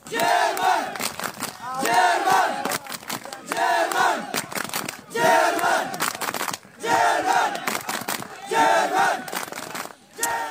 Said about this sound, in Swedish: Det går inte att missta sig på vart de här flyktingarna vill. De vill till Tyskland. German skriker de här.